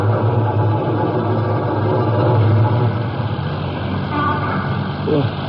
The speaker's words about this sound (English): Let's shut this truck up and get moving.